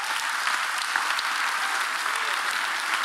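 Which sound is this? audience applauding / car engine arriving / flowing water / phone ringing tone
audience applauding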